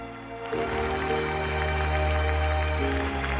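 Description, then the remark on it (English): A crowd at Wimbledon 1980 claps steadily, a dense crackle of many hands, as the Duke and Duchess of Kent present the cup to Bjorn and shake his hand, with a low sustained musical tone running beneath it throughout. No one speaks. “Bjorn, wearing his red tennis jacket, goes back on the court to receive the large, silver gilt cup from the Duke and Duchess of Kent, who shake his hand while the crowd applauds.”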